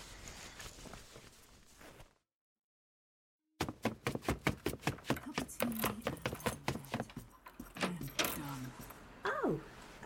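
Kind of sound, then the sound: household object, keys jangling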